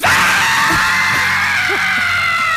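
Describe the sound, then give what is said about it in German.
A crowd shouts and screams together in a loud, continuous roar that fills the whole moment, with no clear individual words standing out. “Ich will jetzt kein Geschrei hören.”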